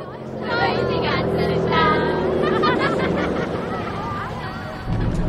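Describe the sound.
A steady, low engine drone of a bus driving along a coastal road, with a group of voices chattering and babbling inside over the continuous rumble.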